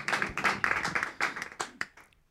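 A short burst of applause from a small group, dense clapping at first that thins into a few scattered claps before fading out, with no voices.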